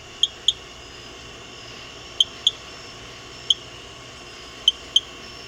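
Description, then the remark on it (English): A chirping frog calls at night, a sound sometimes mistaken for a bird, with sharp, high-pitched chirps, mostly in quick pairs separated by pauses, seven in all, standing out over a steady low hiss of background noise. “That's the chirping frog.”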